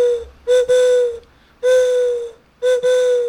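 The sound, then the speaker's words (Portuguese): A wooden bird-call whistle imitating a juriti dove is blown in three steady, hollow hoots, the last two broken by a brief dip, loud with no talking. “O apito da Juriti é fácil, né? Que é só soprar.”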